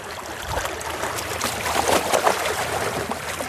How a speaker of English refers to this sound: Today, I don't think the ocean's in a good mood, kind of rough.